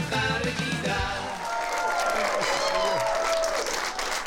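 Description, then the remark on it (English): An audience applauds steadily, a dense wash of clapping with cheers and whoops rising over it, sustained at a fairly loud, even level throughout. “Thank you for that totally undeserved yet well-rehearsed round of applause.”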